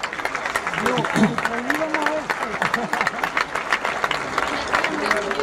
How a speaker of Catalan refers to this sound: Des d'aquí, crec que està per aquí perquè abans l'he vist, jo li vull, crec que li hem de dedicar un fort aplaudiment a ell.